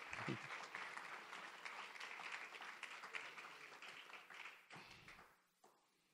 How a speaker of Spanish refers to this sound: Denle un fuerte aplauso a Cristo, hermano, porque se pusieron muy intensos.